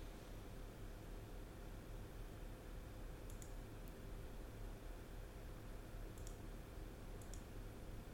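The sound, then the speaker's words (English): A few soft, scattered computer mouse clicks as someone adds a person to a calendar, spaced irregularly over several seconds, over a steady low background hiss with no one talking. “I'm clicking here because I'm adding you to a calendar.”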